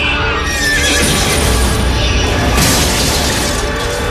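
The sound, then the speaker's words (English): A horse named Pilgrim neighs and whinnies loudly and shrilly as he rears up in front of a skidding truck in the snow, pawing at its windscreen, over a dense, steady rumble, with a bright burst of crashing noise partway through as the truck smashes into him; no voices. “Pilgrim rears up in front of the truck, pawing at the windscreen and throwing Grace off.”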